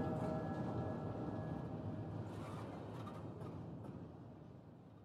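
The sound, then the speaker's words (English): A train rolls steadily along steel rails, a dense, continuous low rumble with a thin metallic hum above it, easing slightly softer toward the end. No voices. “To the steel rails humming, as the hobo's love of life.”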